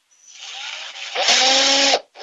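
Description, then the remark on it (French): A cordless drill-driver whirs up, bogs into a heavier, louder grind as the screw bites, cuts off briefly, then starts again, fastening a black, padded leather part in place. No talking. “Vous avez une visseuse dévisseuse pour la mettre.”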